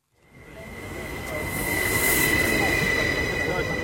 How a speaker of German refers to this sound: Ein Regionalzug fährt in den Bahnhof Laufen ein. Noch hält er ungefähr in den angeschriebenen Sektoren, wie sie alle Bahnhöfe der SBB kennen.